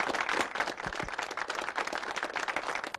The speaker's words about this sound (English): How are we clapping? I have no idea.